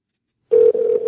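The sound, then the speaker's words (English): After a moment of silence, a steady electronic telephone ring tone of a recorded prank phone call starts up on the line and holds fairly loud to the end, with one brief dip partway through. No one speaks. “Listen to the ringing. The ringing's the best part.”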